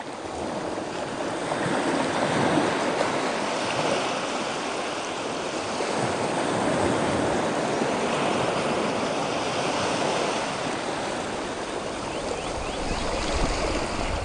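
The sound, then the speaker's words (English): Soft sea waves wash steadily against the shore in a continuous, even hiss of water, with gentle swells rising and falling and no voices present. “And when you're ready, gently let your eyes close and float away to our private beach, where the sea gently laps away at the shore.”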